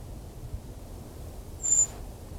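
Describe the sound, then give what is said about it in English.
A single high, thin whistled call from a brown creeper, isolated from a dispersed flock, at 1 o'clock on 2nd November, rings out briefly over a low, steady outdoor rumble, then silence returns. No one speaks. “It's the creeper again.”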